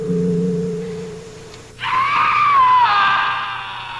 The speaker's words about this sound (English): Bosun and Jerry run toward the scream.